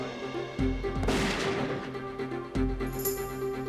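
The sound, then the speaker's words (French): A loud gunshot from a test firing, with a microphone set near the gun's barrel to trigger a camera flash, cracks out and rings off with a reverberant tail, framed by deeper booming thuds just before and after, with no voices present. “Après chaque détonation, Reeves éloignait le microphone du canon de quelques centimètres.”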